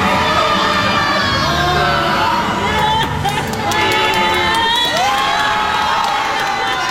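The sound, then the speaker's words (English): A crowd at a restaurant with a big shark tank in Toronto cheers and shrieks wildly as a man gets completely naked, a dense, loud wall of overlapping high-pitched voices and yells that holds steady for several seconds without letting up. “He gets completely naked, and people go wild.”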